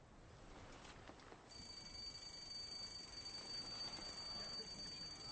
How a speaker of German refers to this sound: Sorry, but why do we have an alarm go off every morning at 10 o'clock? Is it for a changing of the guard? Oh, no. No, no, it's just that my aide-de-camp used to have coffee every morning at 10 with his mother.